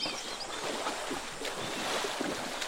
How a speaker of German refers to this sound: Und zum Schluss hören wir noch badende Elefanten in freier Wildbahn. Die planschen hier im Fluss am Okavango-Delta in Botswana.